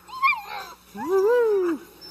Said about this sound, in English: That's the Marvel litter, six puppies that were born 8 weeks ago. And gosh, they're in a chicken coop